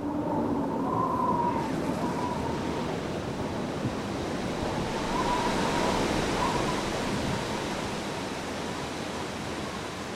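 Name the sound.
stormy sea waves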